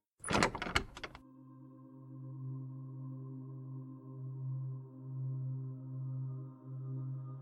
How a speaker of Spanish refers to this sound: Al pasar por la primera puerta, esta se abre.